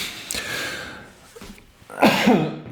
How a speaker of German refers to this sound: Kurz husten, Entschuldigung.